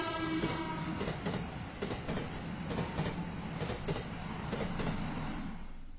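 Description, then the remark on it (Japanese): A streetcar carrying many students in Hiroshima on a fine day rumbles along its tracks, steady low rolling noise with a series of regular rhythmic clacks from the wheels over rail joints, continuous throughout with no talking. “路面電車が走っています。”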